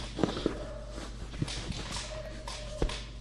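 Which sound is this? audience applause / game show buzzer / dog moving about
dog moving about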